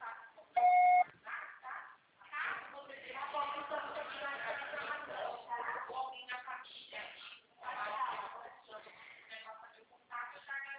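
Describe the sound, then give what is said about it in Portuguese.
A single loud, steady answering machine beep lasting about half a second, followed by several seconds of continuous talking from a voice, with no further tones. “Sua proposta será tarifada após o sinal.”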